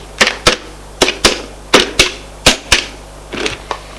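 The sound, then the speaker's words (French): Someone dials a number on a telephone in a father's study upstairs: about a dozen sharp, crisp clicks, mostly in quick pairs, at a steady pace over a faint low hum, with no talking. “Prends le téléphone, fais un numéro,”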